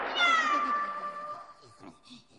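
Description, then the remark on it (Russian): A voice imitates a single long, drawn-out cat meow, fairly loud, sliding gently downward in pitch, followed by a few faint, brief murmurs. “Мяу. Мокро и холодно.”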